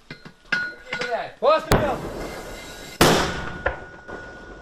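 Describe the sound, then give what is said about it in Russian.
Mortar fire from mortar crews of the Ukrainian Armed Forces' 225th Separate Assault Battalion, firing at Russian soldiers in a forest across the front line: two loud, sharp blasts about a second apart, each followed by a rumbling decay. Brief voices come just before the first shot, and faint sounds linger afterward. “Минометчики 225-го отдельного штурмового батальона ВСУ как раз засекли перемещение по другую сторону линии фронта.”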